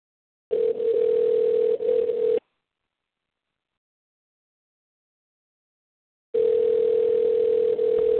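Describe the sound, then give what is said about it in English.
Two long, steady electronic ringback tones from an outgoing phone call to a sister's number before it reaches voicemail, each about two seconds, separated by a few seconds of silence. The tone is clear and moderately loud, with no voices. “Let's, next phone number we got here.”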